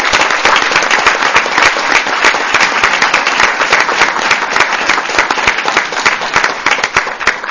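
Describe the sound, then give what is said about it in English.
Sustained applause from a large audience as students applaud their parents at a student recognition ceremony, dense overlapping claps forming a steady, loud wash of sound for several seconds with no voices standing out. “And most importantly, I think, will the parents of these students stand to the applause of your children who recognize your importance?”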